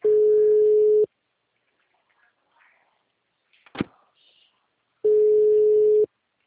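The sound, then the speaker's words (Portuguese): Two steady telephone ringback tones, each about a second long with a four-second pause between, go unanswered; a faint click and rustle fill the gap. “Não, ele não atende nesse telefone.”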